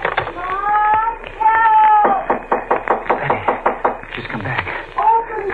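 Loud, rapid knocking on a door by a woman, a quick series of sharp raps over about three seconds, preceded and followed by a high, wavering vocal sound.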